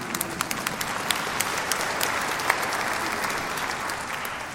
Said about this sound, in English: And yes, you can clap if you want.